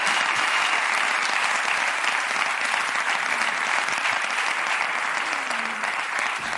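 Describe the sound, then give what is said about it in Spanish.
Sustained applause from a group, a steady dense patter of many hands clapping for several seconds without pause, loud and even throughout. “Un aplauso para ellos, porque es que de verdad que esta gente...”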